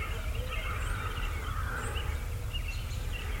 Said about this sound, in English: Did you hear that? There's a gobbler. He's probably down. He's probably backside of the knob.